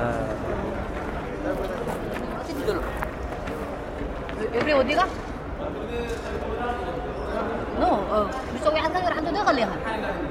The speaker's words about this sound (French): Alors sous cette bulle, c'est très bizarre parce qu'il y a les voix qui se mélangent, qui rebondissent sur la toile tendue. Et on entend donc des bribes de voix, des voix un peu de partout dans le monde, mais surtout de Somalie, du Soudan, d'Érythrée